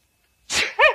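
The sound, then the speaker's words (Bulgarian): A single loud sneeze from an uncle who has taken sneezing powder: a breathy, noisy burst that swells over half a second, then a sharp voiced snap at the end, otherwise quiet. “Мълчи, за кихане това е прах.”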